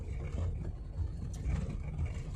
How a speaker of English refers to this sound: I hope you guys can hear. I'm on a dirt road and in an old car, so it might be pretty loud.